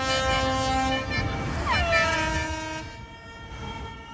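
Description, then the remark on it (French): Sirens of a cargo ship and horns of a flotilla of small boats blare together at night on the Vendée coast, saluting Yannick Bestaven's victory, in long, overlapping sustained blasts, one tone briefly swooping in pitch midway, over a steady outdoor rumble before fading somewhat toward the end. “Des sirènes d'un cargo klaxonnent de toute une flottille de petites embarcations.”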